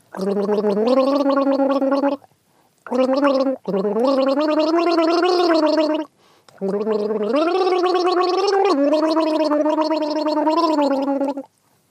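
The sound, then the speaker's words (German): Someone gargles the melody of an English-language song, a bubbling, throaty voice rising and falling in pitch across three sustained phrases separated by short pauses, loud and continuous. “So, also, du bist dran mit Gurgeln.”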